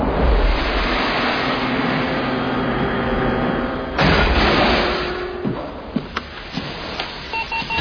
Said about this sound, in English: All I know is there's a beep on this thing, and I'm trying to get us there.